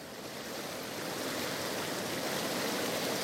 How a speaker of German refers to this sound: Und hier ist die Donau. Weiß ich nicht, ob wir da hier ganz genau jetzt zum Wasser gehen können oder nicht.